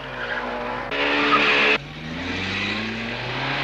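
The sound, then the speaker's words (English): A Trabant 601 car, made by VEB Sachsenring Automobilwerke Zwickau in East Germany, revs hard while its tires squeal loudly through a tight corner, a bright screech bursting in for about a second before the motor drones on alone, steady. “Robust, powerful, lively, stable cornering.”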